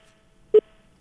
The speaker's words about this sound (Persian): متاسفانه تلفن شم قطع شد.